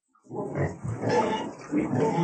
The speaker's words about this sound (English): And look at these. What are they? They're pigs.